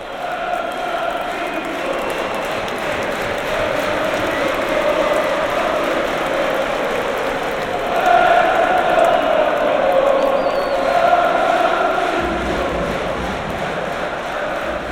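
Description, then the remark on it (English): A dense football crowd roar of away fans of Eddie Howe's team cheering at the final whistle, steady and loud, with sung or shouted tones running through it and a surge of louder cheering midway. “And when the whistle goes, it is us you can hear.”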